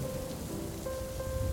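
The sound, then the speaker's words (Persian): Steady rain falls on the streets of Tehran in a continuous, even hiss, fairly loud, with no voices and no break in the wash of drops. “توی تهران، توی خیابونا قدم میزدم به سمت خونه که یهو بارون گرفت.”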